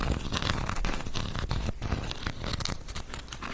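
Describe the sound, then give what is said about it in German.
Continuous rustling and scratching as a pen is rubbed back and forth across a surface, with irregular gritty bursts and no voices. “Du kannst, glaube ich, du hast ja den Stift liegen, du kannst damit so ein bisschen drauf rumrascheln oder sowas.”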